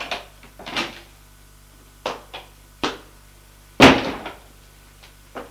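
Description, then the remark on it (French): A door is handled and opened: a series of sharp clicks and knocks, then one loud, heavy thud partway through, followed by a few softer taps and rattles. No one speaks. “Ouvre une porte.”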